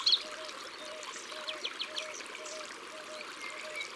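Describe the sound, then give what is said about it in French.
A bird perched atop a small cliff above a river sings a repeated two-part song, short phrases returning every half second or so, set against the steady rushing of the river. “C'est un oiseau qui aime se percher bien en hauteur pour chanter.”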